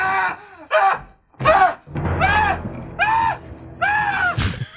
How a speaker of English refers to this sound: Here's a great old man scream. This is the pervert in the elevator yelling after the head gets chopped off. So he goes like this.